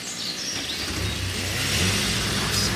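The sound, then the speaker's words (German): A crane truck's heavy diesel engine rumbles low and steady, then revs up with a rising drone, in a forest in the early morning fog, with black diesel exhaust. Faint bird chirps sound in the background outdoors. “Die schwarzen Dieselwolken aus dem Auspuff des Kranwagens vermischten sich mit dem Morgennebel, der träge durch den Wald kroch.”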